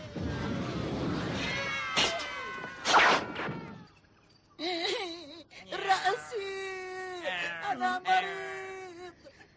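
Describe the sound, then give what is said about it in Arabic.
The leader's voice lets out a string of drawn-out, cat-like meows and wavering wails, loud, with a short silent gap midway before the mewling resumes in quicker bursts. “رأسك أيها القائد، هل هذه أعراض انفلونزا القطط؟”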